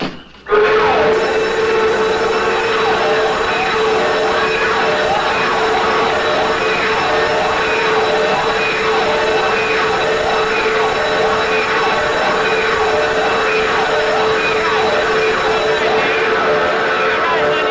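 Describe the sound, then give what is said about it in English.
A burglar alarm blares continuously, a loud electronic siren whose shrill pitch sweeps up and down in a rapid, repeating warble over a steady droning tone for the whole stretch. “But he had a burglar alarm hooked up in there.”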